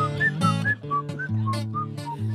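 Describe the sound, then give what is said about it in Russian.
Artistic whistling: a bright, clear whistled melody of short, lilting notes rising and falling, carried over a steady instrumental backing with sustained low chords, fairly loud. “Художественный свист”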